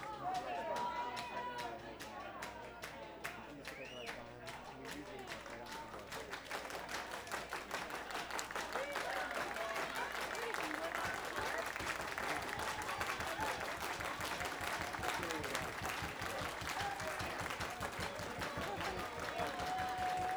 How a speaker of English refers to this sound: All right, that's the way they used to clap in the 70s. All right, this is the double O's. The 90s happened. This is how we clap now.